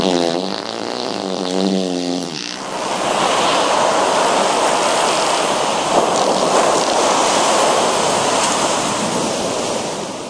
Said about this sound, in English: parts the Red Sea.